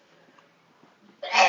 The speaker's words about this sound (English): Bless you. Sorry.